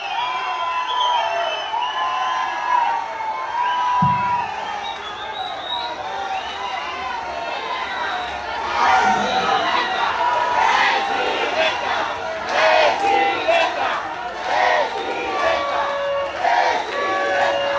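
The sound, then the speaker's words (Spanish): A large crowd shouts and cheers continuously, many voices overlapping in a loud, steady roar that swells into sharper bursts of whooping partway through. “ya dejen de gritar porque mañana hay que trabajar.”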